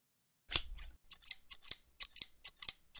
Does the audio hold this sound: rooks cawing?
no